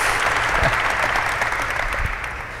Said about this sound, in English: Another round of applause for Mike.